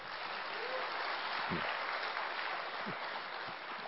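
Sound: audience clapping loudly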